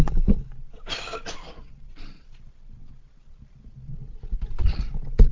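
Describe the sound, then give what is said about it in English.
A couple of harsh coughs, then quieter rustling and soft sipping sounds of someone drinking water, ending with another short throat-clearing burst. No one speaks. “Excuse me, I'm just going to have a little cough and a drink of water.”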